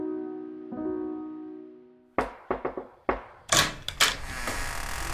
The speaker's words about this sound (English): It was at this moment that there was a knock at the door.